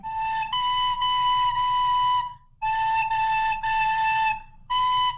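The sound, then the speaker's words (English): A recorder, played by someone who minutes earlier could barely hit a note, plays a simple melody of sustained, fairly loud notes around one pitch, grouped into short phrases with brief pauses between them, over a low steady rumble and no talking. “You're like mastering the recorder.”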